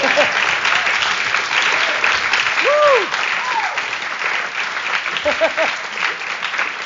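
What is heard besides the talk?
audience applause and cheering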